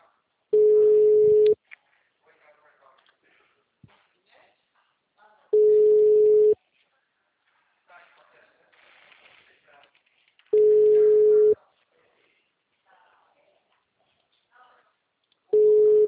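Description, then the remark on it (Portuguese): A telephone ringback tone repeats four times during a call that is then forwarded to voicemail, each steady mid-pitched burst lasting about a second with roughly four-second pauses between, faint murmuring talk filling the gaps. “Eu já mandei, eu vou ligar para ele de novo.”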